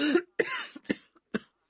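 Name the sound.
coughing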